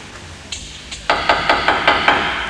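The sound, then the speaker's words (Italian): Two light taps, then a run of six firm, evenly spaced knocks on a door, clear with no voices. “vado a bussare e voglio i miei 5 franchi”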